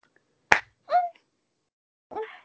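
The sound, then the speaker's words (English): A single sharp slap of a hand against skin, crisp and brief, followed by two short vocal sounds from a person. “Slap it for me.”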